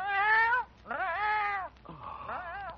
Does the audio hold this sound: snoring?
no